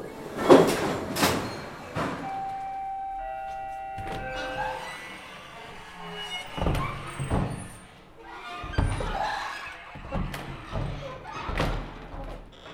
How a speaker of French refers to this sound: je prends le métro direction Saint-Lazare